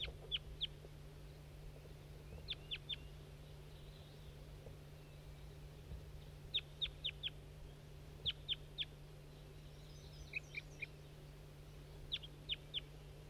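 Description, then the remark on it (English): A wild bird calls in short bursts of three or four sharp, high chirps, repeated several times with pauses between, over a constant low electrical hum. “That's that wild bird that was tooping.”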